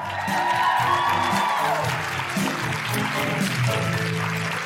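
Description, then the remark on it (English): A live audience at the Guilty Feminist show in Canberra claps and cheers for the performers in a steady, loud wash of applause that holds for several seconds, with some whoops and tonal sounds rising through the clapping. “Can I have a big round of applause for those phenomenal women that you will be seeing a lot more of later?”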